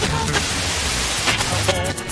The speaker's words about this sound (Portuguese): Vamos ouvir sim. Liga o rádio do carro aí